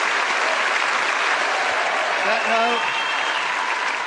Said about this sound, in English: We should give a round of applause for the other two. We should give one to Paul as well.